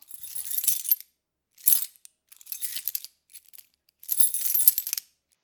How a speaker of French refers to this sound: J'arrive devant ma maison. Je prends mes clés.